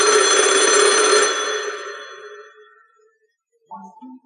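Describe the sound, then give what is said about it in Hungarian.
A red dial telephone's bell rings loudly for about a second and a half, then its metallic shimmer slowly fades out, followed by a brief quiet and a short burst of small clattering sounds. “Ez a piros telefon.”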